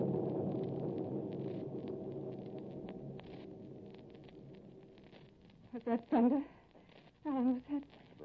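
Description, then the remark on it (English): A deep, rolling rumble of thunder before a storm swells and slowly fades over several seconds, followed by a few brief bursts of people talking. “It is thunder”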